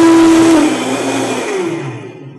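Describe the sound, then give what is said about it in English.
A powerful Vitamix blender motor roars loudly with a steady high whine that drops in pitch as it is switched off and winds down over a couple of seconds, with no voices. “Now real quick, this is a special blender.”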